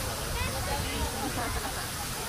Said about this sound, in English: Backwards waterfall. Oh, yeah. What? Backwards waterfall? This is what you do if you have imagination.